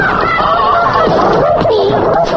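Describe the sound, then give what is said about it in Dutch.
A short, loud jingle of honking, goose-like bird calls, the Roepie bird, the lucky-bird jingle of Radio 3: several squawks tumble over one another for a couple of seconds, with no talking. “Dit is de Roepie vogel. De geluksvogel van Radio 3.”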